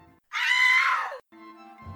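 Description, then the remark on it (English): A woman lets out a single loud, piercing, harsh shriek lasting about a second as a man digs his fingernails into her wrists before a jury, then it cuts off into a quieter, steadier tone. “head jerked up as she uttered a loud shriek”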